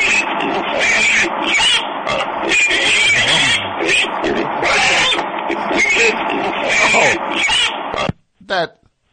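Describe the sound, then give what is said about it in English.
Loud, harsh, raspy pig grunting and squealing that runs almost continuously for about eight seconds, then a short silence and one brief final squeal. “Wait, did she actually turn him into a pig?”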